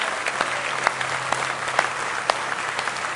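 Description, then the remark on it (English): A church audience at a morning service claps steadily in praise of the Lord, dense overlapping hand claps forming a continuous wash of applause with a few sharper individual claps standing out, sustained at even loudness throughout. “Let's give Him one more hand clap of praise in the house of the Lord this morning.”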